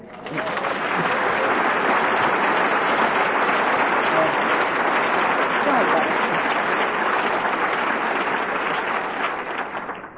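A large audience claps steadily and loudly for about ten seconds, a dense continuous wash of applause that holds even throughout before tapering slightly at the end.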